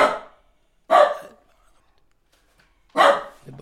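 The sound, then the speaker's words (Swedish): A dog barks three times, loud, with two quick barks about a second apart, then a pause before a final bark. “Med tacksam, de skäller sig in i orden.”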